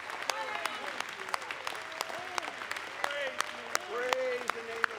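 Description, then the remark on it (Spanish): A crowd claps steadily and unevenly for several seconds to praise God at an evening gathering, sharp claps rising over a bed of voices that call out and cheer with rising and falling pitch. “Vamos a darle un gran aplauso a Él en esta noche.”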